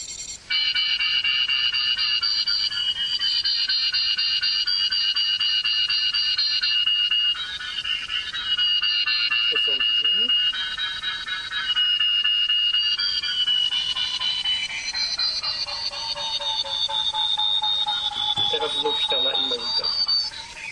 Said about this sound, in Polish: Sądzę, że to wystarczy do pokazania pracy keysonara. Dźwięki mogą wydawać się dziwne, ale rzeczywiście oddają różne obiekty. Łatwo się do nich przyzwyczaić i zwykle nie męczą ucha.